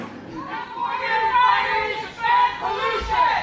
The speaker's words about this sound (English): Well, on Saturday, a group of protesters, many of whom were Native American, disrupted California Governor Jerry Brown's speech here in Bonn, calling on California to ban fracking. The protesters yelled, "Keep it in the ground."